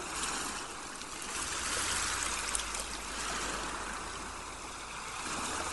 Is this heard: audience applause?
no